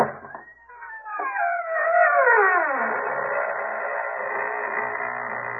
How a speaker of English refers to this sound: And now we open the squeaking door.